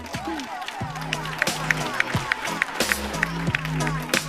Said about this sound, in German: Namenlos ist damit der Gewinner dieser Runde. Ein großer Applaus.